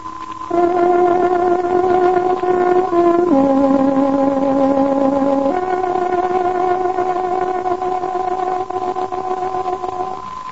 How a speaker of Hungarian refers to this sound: Kedves hallgatóink, pontos időjelzést adunk. Tárogatónk hangja 15 órát jelez.